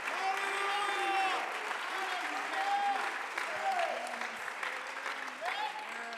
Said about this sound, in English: Somebody hoy. Clap your hands all over this. Alguien aplaude sus manos.